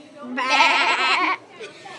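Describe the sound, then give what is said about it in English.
A child's voice lets out a single loud, quavering goat-like bleat lasting about a second, followed by a brief quieter vocal sound. “They sound awful like the goats”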